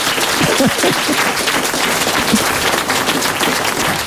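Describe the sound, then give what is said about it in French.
An audience applauds steadily for about four seconds, a dense, loud wash of many hands clapping at once that stays at an even level throughout, with faint voices mixed in early on. “On peut applaudir, hein, bravo, parce que c'était pas facile.”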